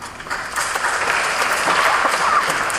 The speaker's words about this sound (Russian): Робкие аплодисменты.